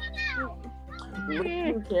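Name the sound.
cat meowing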